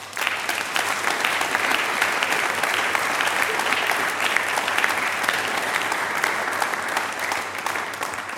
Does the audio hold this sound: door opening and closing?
no